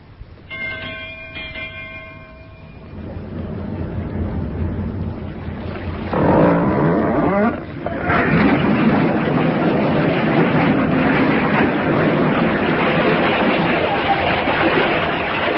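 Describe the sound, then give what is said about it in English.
Ship engines churn up to full ahead power, a brief tonal hoot at the start giving way to a loud, steady mechanical roar that swells and holds, with no voices. “Stop engines.”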